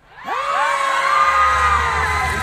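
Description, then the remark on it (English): An audience of children lets out a sudden, loud, sustained scream that rises sharply and holds for a couple of seconds, many high voices blending together. “Oh, this caused everyone to scream.”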